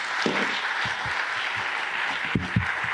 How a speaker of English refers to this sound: I think you'll agree they've all been really brilliant talks. So if you can give all the speakers another round of applause.